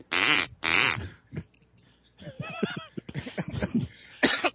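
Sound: duck call being blown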